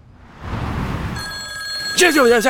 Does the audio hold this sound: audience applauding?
no